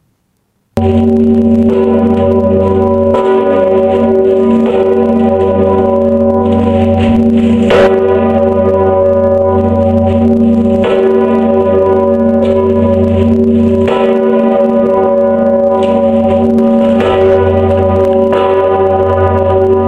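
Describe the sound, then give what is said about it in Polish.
A large church bell tolls loudly, struck roughly every two to three seconds, its deep humming overtones ringing on continuously between strikes. “Z wnętrza płaszcza wystaje serce dzwonu.”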